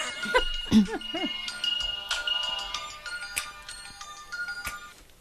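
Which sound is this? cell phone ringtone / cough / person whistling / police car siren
cell phone ringtone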